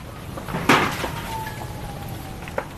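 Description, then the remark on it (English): A fire roars steadily while a loud crashing thud breaks through, followed by scattered cracks and pops and a thin, wavering high tone as homes burn and collapse one after another in a wildfire late at night in the Pacific Palisades, Los Angeles. “Late into the night, in one of LA's wealthiest areas, the eerie sound of home after home burning and collapsing, the sky filled with orange smoke and embers.”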